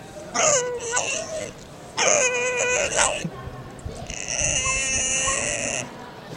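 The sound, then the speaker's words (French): A pig screams in three long, shrill, high-pitched squeals, the last one the longest, with short gaps between them and no talking, in a clip found on YouTube. “J'ai mis un cochon, j'ai cherché Yelling Pig sur YouTube et j'ai trouvé ça.”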